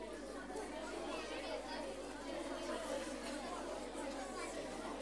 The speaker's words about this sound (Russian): О, видишь, вы сразу загудели.